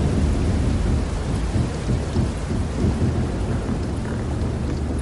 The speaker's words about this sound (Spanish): El Agolas 2 no empuja el hielo, sino que se sube a él. Y con el peso de 14.000 toneladas del barco, el hielo comienza a romperse.